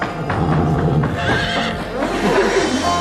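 A horse neighs loudly, a long shaky whinny rising and falling over about three seconds, with a faint clatter of hooves underneath and no one speaking.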